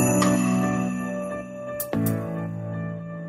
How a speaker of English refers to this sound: Here, check it out. Sleigh bell here.